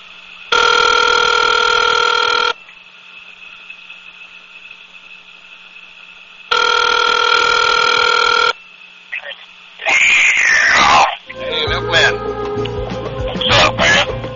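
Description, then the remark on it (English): A phone rings over a speakerphone, two long buzzy rings separated by a few seconds of quiet line hum, then the call connects with a burst of crackly, garbled noise. “Putting on speaker on the bat phone.”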